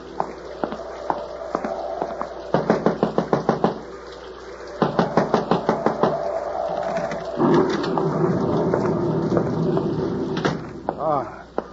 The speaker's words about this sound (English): You knocking.